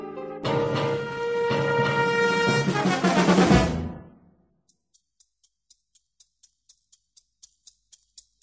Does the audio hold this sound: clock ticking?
yes